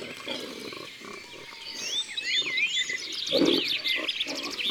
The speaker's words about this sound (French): Les sangliers grognent un peu comme des cochons, mais en plus grave. Et ils sont souvent en groupe, en famille.